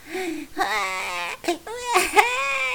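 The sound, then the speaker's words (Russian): A child cries in loud wailing sobs, the pitch rising and falling across several drawn-out bursts with brief catches of breath between them. “Головастик плачет в луже.”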